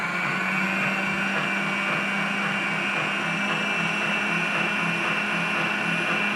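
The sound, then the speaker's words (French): An electric kitchen mixer whips cream with icing sugar in a cold bowl to make whipped cream, whirring steadily and loudly throughout, a constant high-pitched motor hum with a faint rattling texture and no pauses or voices. “Allez, le bol est en place, le mixeur est en place et on fait tourner.”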